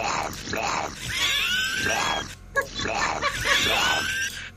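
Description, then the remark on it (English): A voice imitates a burp and a fart at once, twice in a row: long, rasping, squealing grunts, fairly loud, each lasting about two seconds with a short break between. “A hot dog is when you burp and fart at the same time.”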